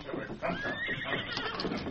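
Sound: horse whinnying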